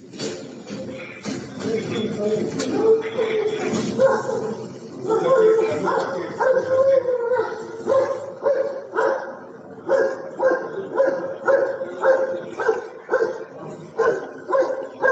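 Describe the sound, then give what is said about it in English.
Dogs bark loudly and repeatedly, with agitated barks that settle into a steady rhythmic series of sharp bursts toward the end, while human voices and shuffling sound underneath. The dogs are set on Palestinian prisoners lying face down with hands tied behind their backs, held by Israeli forces in the Medinero prison. “The video shows prisoners lying face down on the ground, hand tied behind their back, while being terrorized by dogs.”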